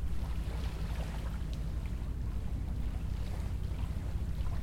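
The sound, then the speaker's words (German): Tiny waves gently lapping at a riverbank in Rodenkirchen, Cologne, a steady soft wash with low rumbling wind noise over the microphone, continuous and fairly quiet, with no talking. “Ich weiß nicht, ob ihr es hören könnt, aber das Wasser plätschert, die Wellen, die winzig kleinen Wellen laufen hier am Ufer auf.”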